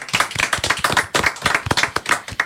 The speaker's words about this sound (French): Je pense qu'on peut l'applaudir encore. Merci.